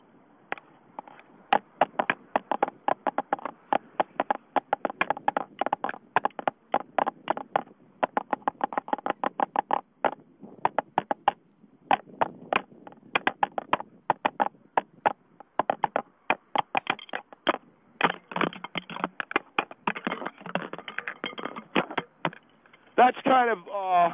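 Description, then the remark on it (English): A fast, busy jazz drum solo with rapid, irregular strikes and rolls that barely pause, heard tinny and thin as if over a phone line, running unbroken for the whole stretch. “Do it just a drum solo.”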